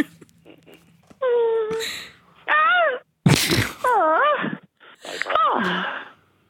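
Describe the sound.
A woman lets out a string of loud, theatrical, exaggerated fake moans and screams, each wavering up and down in pitch, separated by brief pauses, with a harsh breathy gasp partway through.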